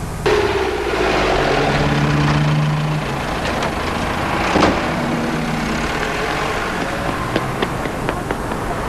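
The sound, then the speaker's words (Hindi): A vehicle engine idles steadily after the driver brings it to a stop on command, its low rumble dropping slightly partway through, with a few faint clicks and knocks over the continuous hum. “ए driver, गाड़ी रोको।”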